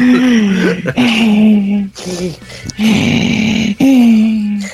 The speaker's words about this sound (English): I didn't know if the breathing was part of your fucking reading.